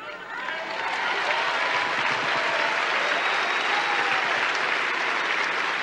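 Sustained applause from a large audience, a dense steady wash of many hands clapping at once that swells within the first second and holds loud and even throughout.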